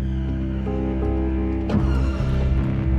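A car engine idles steadily in a garage at night, a constant low rumbling hum with a brief mechanical shift partway through, heard alone without any voices.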